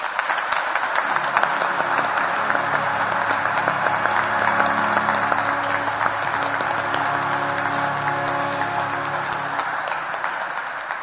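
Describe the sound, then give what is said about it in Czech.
Sustained applause from a crowd welcoming a priest, a dense, steady patter of many hands clapping for about eleven seconds, with no voices over it. “Můžeme ho uvítat potleskem.”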